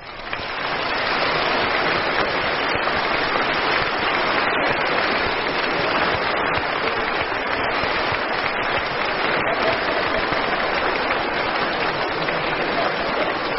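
Sustained applause from a large crowd in a hall for the winner of the 1952 Mobile Quest singing contest, a dense, steady clatter of many hands clapping at even loudness throughout, with no voices over it.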